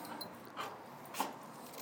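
Dogs playing in a garden in the evening, with two short, squeaky yelps or whines breaking through a soft, steady background. No one speaks.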